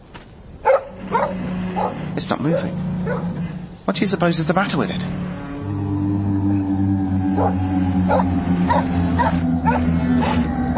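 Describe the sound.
An eerie, low mechanical howl from a giant Martian fighting machine at the top of Baker Street rises partway through and drones steadily to the end, sustained and wavering beneath a man's voice.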